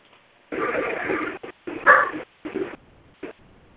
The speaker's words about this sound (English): Is that him coughing? I don't know. He does have a bit of a cough. Not always. He's coughing home. No, I think that was my little dog barking in the next room. Oh, okay.